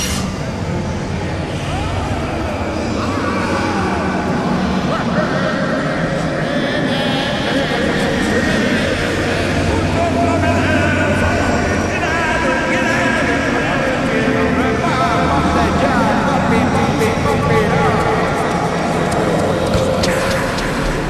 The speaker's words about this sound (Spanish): Según publicó un artículo el periódico finlandés llamado Amenosatainda, son gritos y lamentos que se escuchan desde las profundidades de la Tierra. Tenemos el audio, tenemos sí, el audio.